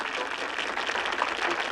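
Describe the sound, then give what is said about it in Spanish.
Audience applause, started by Patel: many hands clapping in a dense, steady crackle that holds an even loudness throughout, with no voices standing out. “Patel inició el aplauso.”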